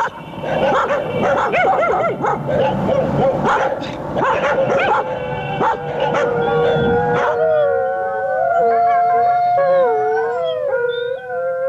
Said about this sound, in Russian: Воют бездомные собаки в писательском поселке Переделкино. Воют и бегают стаями по улице Гоголя, по улице Серафимовича, по улице Павленко. Кажется, они тут единственные жители.